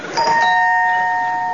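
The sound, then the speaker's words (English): A doorbell chimes once, its bright tones sustaining and slowly fading, loud with no voices. “I'll ring the doorbell.”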